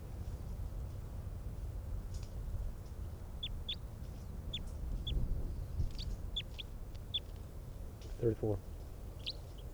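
Bird 305 calls excitedly in a quick series of short, high-pitched chirps, then gives a brief, harsher, louder squawk near the end, all over a steady low rumble.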